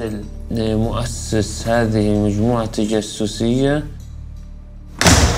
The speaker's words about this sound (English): The building door slams shut behind him.